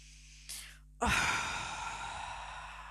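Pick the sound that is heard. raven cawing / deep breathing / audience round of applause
deep breathing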